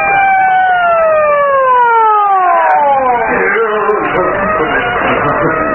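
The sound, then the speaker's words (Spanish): A loud police car siren of arriving police wails in a long falling sweep over a few seconds, then dissolves into a dense wash of blaring noise and rumble that stays strong to the end. “Calimán, ahí viene ya la policía.”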